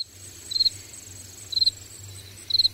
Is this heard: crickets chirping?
yes